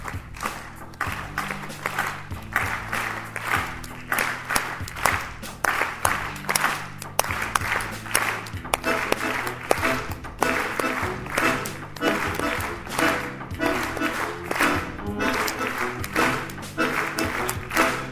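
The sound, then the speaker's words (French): A theatre audience of about 300 people at a live concert for the reopening of the Grand Théâtre at the scène nationale d'Albi applauds steadily, a dense, loud wash of many hands clapping, with low sustained tones, likely music or voices, humming faintly underneath. “Des applaudissements et un concert en live avec des vrais gens.”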